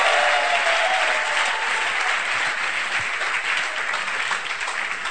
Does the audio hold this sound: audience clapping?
yes